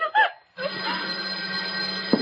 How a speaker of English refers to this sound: You, farmer, go answer the phone.